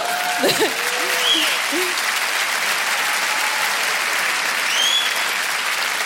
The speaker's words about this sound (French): Applaudissez tous ensemble, je vous en prie.